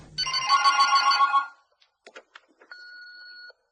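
A telephone bell rings loudly in a rapid metallic trill for just over a second, followed by a few sharp clicks and then a short, steady electronic tone.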